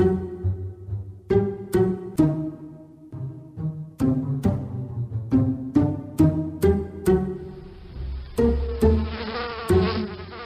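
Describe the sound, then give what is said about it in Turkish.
A bee buzzes in a living room in a steady, droning hum, broken into repeated bursts with short clicks between them and growing brighter and busier toward the end. No one speaks. “Salondaki arıyla oynuyorum Aykızım.”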